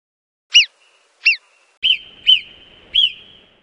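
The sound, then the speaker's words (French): A marmot gives five sharp, high alarm whistles in a steady series about half a second apart, loud, with a faint steady tone lingering beneath the later calls. “C'est une marmotte.”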